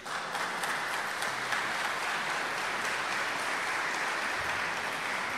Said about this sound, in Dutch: Ik weet niet of ik een applaus verdien.